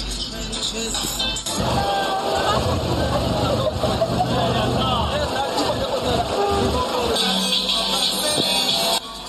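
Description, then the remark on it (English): A busy carnival street crowd: dense, overlapping chatter from many people, loud and unbroken, over a low rumbling undertone that swells after the first second and holds to the end. “So it's very difficult to squeeze through the crowds at the carnival.”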